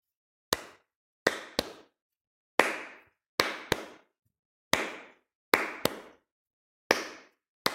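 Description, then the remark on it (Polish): Hands clap out a short, somewhat harder rhythm for a rhythmic echo game, about ten sharp claps, some in quick pairs and others spaced apart, with silence between and no voices. “Ja wyklaszczę krótki rytm, ty posłuchaj i zaraz spróbujemy wyklaskać go razem.”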